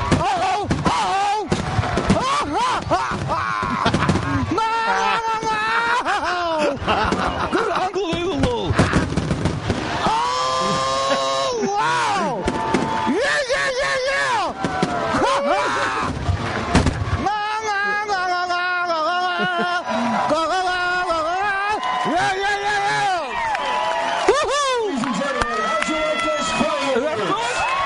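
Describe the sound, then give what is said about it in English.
Fireworks pop and boom in rapid, continuous bursts at a ballpark, with whistling streaks rising among the blasts, while a crowd cheers and shouts throughout. “A truly amazing fireworks display”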